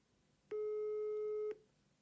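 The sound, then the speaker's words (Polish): A single steady telephone ringing tone while calling the office of MP Mateusz Bochenek, one long electronic beep lasting about a second, with no talking and faint background noise before and after. “mam już jego numer wpisany w telefonie, więc zadzwońmy do niego i dowiedzmy się, czy może nie WOŚP-owi.”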